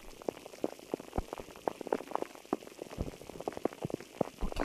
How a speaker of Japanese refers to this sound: 木がいっぱいあるので、雨が降ると炭酸のように弾けるような音がして、でもどこか寂しいような、そんな雨音がお店の中に響くんです。